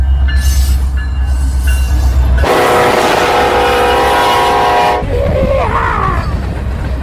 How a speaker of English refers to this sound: About as big as this train that's fixing to go by us. Oh, yeah, we're going to have some new sound effects here.